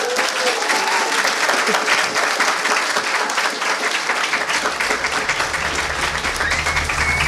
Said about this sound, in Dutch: Een applaus misschien.